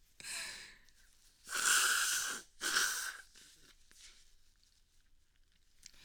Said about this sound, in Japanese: くしゃみのしすぎってあんまり体に良くないとは思うんですよ。まして自発的にするなんて。でもなんか鼻詰まってる時とかやると鼻詰まり取れてすっきりするんですよね。